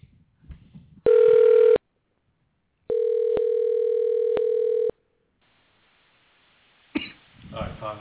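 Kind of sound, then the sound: signal or alarm, telephone call ringing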